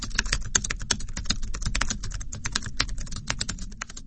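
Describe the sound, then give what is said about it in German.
Rapid, irregular computer mouse clicks rattle on continuously, crisp, as someone clicks on the treatment plan in a medical software program, with a faint low hum underneath and no voices. “Ich klicke auf Plan Leczenia, Behandlungsplan.”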